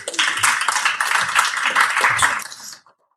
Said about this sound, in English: Give a round of applause